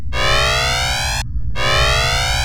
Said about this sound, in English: Mizzek, the Destroyer, signals an alarm.